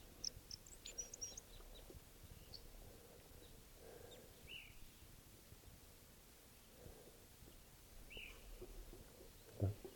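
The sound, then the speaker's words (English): A male bird's flight song: faint, high chirps and twittering notes that cluster at the start, then return as scattered short calls over a steady rustling hiss. No one speaks. “Here's the calls of a one of the birds. Flight song of a male.”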